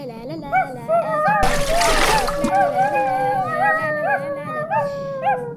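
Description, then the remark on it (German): A single loud splash bursts out partway through as someone jumps into a river, surrounded by continuous wavering dog-like howls and yips that carry on before and after. “du musst jetzt ins Wasser springen.”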